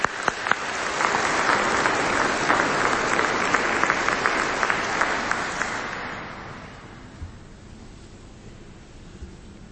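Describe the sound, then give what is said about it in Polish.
An audience at a Polish-language Catholic Mass applauds after the parish priest's welcome, with dense, steady clapping for about six seconds, then the applause thins and fades away, leaving a quiet hiss. “Dla was teraz oklaski od was.”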